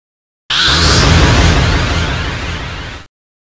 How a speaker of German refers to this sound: Das klingt dann ungefähr so. Echo hinzugefügt.